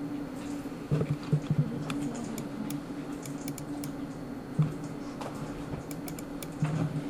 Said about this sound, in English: So you're typing in your username and your password, and that should get you to something that has the words public HTML over here.